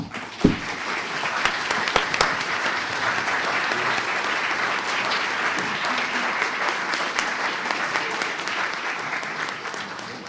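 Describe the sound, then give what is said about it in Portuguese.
An audience applauds steadily for about ten seconds as a colleague is honored on stage with a plaque for his work leading the Ozone Group, a dense, even wash of many hands clapping at a constant loudness, with no voices standing out. “E, com isso, receberá uma placa em homenagem que eu peço que todos aplaudam.”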